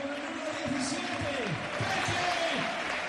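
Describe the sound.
A dense, steady football stadium crowd roar fills the whole clip, an ovation for Racing player Gerard Fernández 'Peque' as he is substituted off, a continuous wash of cheering and clapping at an even loudness, with voices blended into the din.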